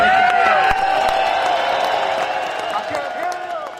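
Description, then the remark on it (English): A large crowd at a recreational fishing industry rally by the Capitol claps and cheers loudly and continuously, a dense wash of applause threaded with whoops and shouted voices, gradually easing a little toward the end. “What if we can make enough noise applauding our industry that they can hear it over here in the Capitol and the buildings there?”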